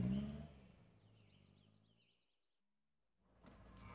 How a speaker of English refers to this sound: Mrs. Boot puts the trailer on the car. Poppy and Sam put a wire crate in the trailer. They drive to the market.